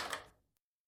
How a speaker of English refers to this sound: Shortly after, I heard the owner come up and lock the door.